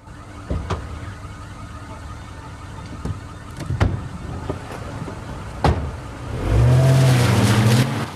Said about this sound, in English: The car pulls away.